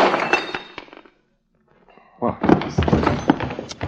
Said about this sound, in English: Well, you're no gentleman. You knocked Miss Moore out with a bottle.